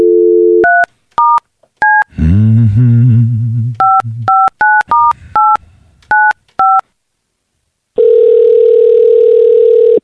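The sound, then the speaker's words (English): A phone line's dial tone gives way to a quick series of touch-tone keypad beeps, interrupted briefly by a warbling sound, then more beeps and a steady, loud ringback tone at the end. “It's ringing. Usually what happens when you dial a phone number.”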